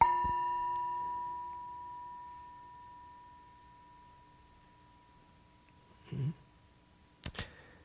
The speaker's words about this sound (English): And then they did this in the Buddha Fest. There was a reading and then a bell to just take it in.